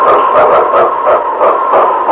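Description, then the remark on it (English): King, the husky lead sled dog of Sergeant Preston in Challenge of the Yukon, barks loudly and repeatedly in quick succession, its sharp yips and howling barks in a steady, energetic rhythm with no voices. “It's King, swiftest and strongest lead dog of the North Country, blazing the trail for Sergeant Preston of the Northwest Mounted Police in his relentless pursuit of lawbreakers.”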